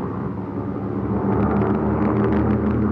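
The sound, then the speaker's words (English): A loud, steady airplane engine roar as the plane takes off down a runway, a dense low rumble that swells slightly partway through and holds strong to the end, with no voices. “It's roaring down the runway.”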